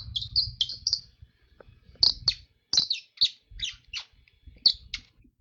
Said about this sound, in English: Let me see if I can make the bird call work.